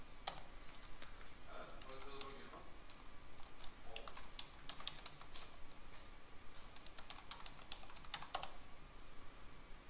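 Rapid, uneven clatter of keys being struck on a computer keyboard, fairly quiet, with bursts of quick taps and brief pauses, alongside faint murmuring voices.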